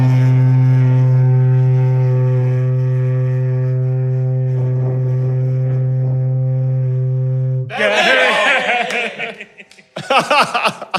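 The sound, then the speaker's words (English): A single loud, deep foghorn blast at Sumburgh Head in Shetland drones steadily for about seven seconds, then cuts off and laughter and chuckling take over. “Thank you to everybody at Sumbrahead for putting up with me coming up and the honking the foghorn.”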